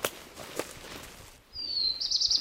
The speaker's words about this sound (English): Did you hear that? Yeah. That's a black-throated blue warbler.